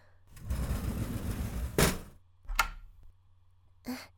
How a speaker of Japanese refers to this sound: ちゃんとドアを閉めて鍵をしておかなくちゃ。